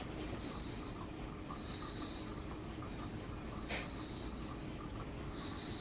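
A man snores steadily, a low continuous rumble with breathy, hissing breaths coming and going every second or two, plus one brief sharp snort partway through. No one speaks.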